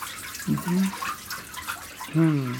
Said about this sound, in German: Ein magischer Moment. Das Wasser tropft ab und der Faserbrei formiert sich zu einem neuen Blatt.